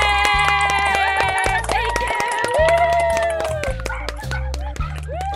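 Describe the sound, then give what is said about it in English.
The small team of the show Death, Sex, and Money, a WNYC Studios production, claps over a FaceTime call, with quick, uneven, overlapping claps throughout. Voices whoop and cheer on top, and a steady low pulse runs underneath. “So much so that on FaceTime, we all just had to clap about it.”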